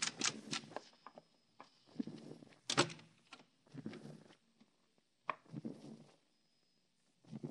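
An unlocked door is opened as someone walks in, with sharp clicks, rattles and scuffing knocks spread over several seconds before a brief quiet stretch. No one speaks.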